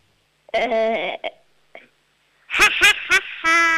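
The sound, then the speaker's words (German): A 7-year-old girl from Upper Austria imitates a witch's cackle: a high, strained sustained note, a short pause, then a run of sharp rhythmic laughing bursts ending in a long shrill note, fairly loud. “Du, und jetzt hätte ich noch gerne, dass du wie eine Hexe lachst.”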